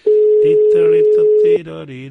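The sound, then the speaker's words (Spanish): A single long beep of an outgoing call's ringing tone, steady and fairly loud for about a second and a half, with people talking over it and continuing after it stops. “Prefiero llamarle, le saludo.”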